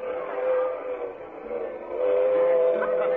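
A train whistle holds a steady, sustained tone over the continuous rumble and clatter of a moving train bound for Westchester, fairly loud, with no voices.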